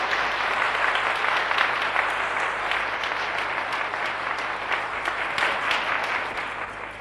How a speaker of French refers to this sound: Je crois que nous pouvons tous applaudir et fortement. Alléluia!